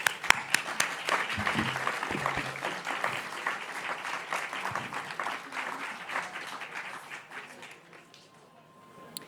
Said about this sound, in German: Trotzdem einen warmen Applaus